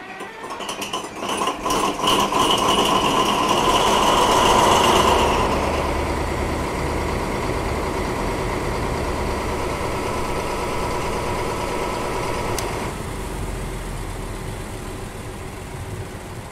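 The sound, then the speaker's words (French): A big Vossloh DE18 diesel locomotive, a four-axle BB type, rumbles steadily, louder and revving briefly at first before settling into a deep, even idle with a faint whine on top. “Donc ces locomotives à son très caractéristique et ce moteur qu'on aime tous en tant que passionné ferroviaire, comme en témoigne ce petit extrait sonore.”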